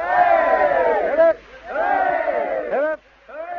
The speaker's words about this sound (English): And I think all those gathered, there must be at least 100 people here, family, friends, of course, press, and, well, my goodness. I think we should have another 3 cheers for the bride and groom. How about it? Hip hip!